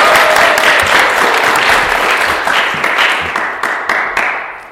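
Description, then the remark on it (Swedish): An audience applauds as the show's bandleader is called up onto the stage, with loud, dense clapping that stays steady, then gradually thins and softens toward the end, with a few sharper individual claps standing out. “Kan vi få upp honom på scen? Kapellmästare Niklas. Woho! En stor applåd.”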